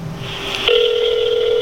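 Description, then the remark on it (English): A phone call being placed to a woman after looking up her number: a brief soft tone and faint click, then a steady, unbroken electronic telephone tone that holds loudly to the end. No one speaks. “Fuck is her number? There she is.”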